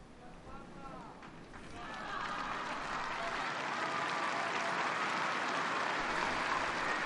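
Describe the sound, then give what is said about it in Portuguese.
A large crowd of faithful and pilgrims applauds steadily at the end of the Wednesday general audience with the Pope's apostolic blessing, on a sunny 17 April at 15°C in St. Peter's Square; the clapping swells after a couple of seconds into a dense, continuous roar that holds level to the end, with a few voices and cheers mixed in. “Assim, os aplausos dos fiéis e peregrinos presentes ao término da audiência geral desta quarta-feira, 17 de abril, com a bênção apostólica concedida pelo Santo Padre esta quarta-feira, de sol esplendente, 15 graus centígrados na Praça São Pedro”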